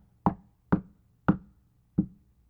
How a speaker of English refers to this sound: Hammering nails in, bending wood, building an ark.